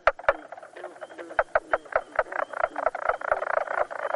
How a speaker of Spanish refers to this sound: Y aquí tienen, señoras y señores, a la rana bisón.